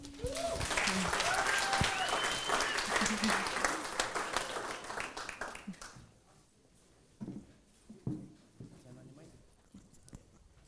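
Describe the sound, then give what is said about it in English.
An audience at New Hope East Hawaii on Mother's Day, May 12th, 2019, applauds steadily for about six seconds, dense clapping that then fades out, followed by a few faint thumps and shuffling sounds in the quiet. “Gosh, can we get another round of applause for our youth?”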